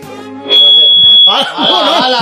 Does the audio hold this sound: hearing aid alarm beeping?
yes